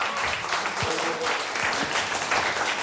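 Steady applause from an audience, a dense wash of clapping hands at an even level throughout, with faint murmurs of voices underneath.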